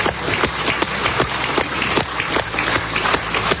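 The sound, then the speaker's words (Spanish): Russian State Duma deputies applaud steadily in a large assembly as they ratify the treaties annexing the Donetsk, Luhansk, Kherson and Zaporizhzhia regions to Russia, with many hands clapping in a dense, continuous patter and some sharper claps standing out at irregular moments. No voices are heard. “Así aplaudía la Cámara de Diputados rusa esta decisión, acuerdos en los que Putin ha intentado dar un golpe sobre la mesa de cara al mundo.”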